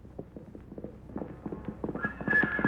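Galloping horse hoofs pound in a quick, uneven rhythm that grows louder, and a high, tonal whinny rises over the hoofbeats near the end. No one speaks.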